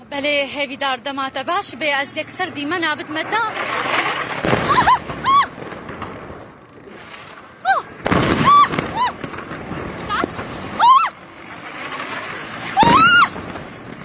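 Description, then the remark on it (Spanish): A woman journalist reports live from Damascus, Syria, while several loud, booming explosions burst out behind her around the ministries in the heart of the capital at irregular intervals, each a sharp thud with a rumbling tail, powerful. “Y entonces detrás de ellas ocurrían en vivo las explosiones, detrás de las periodistas, escuche usted.”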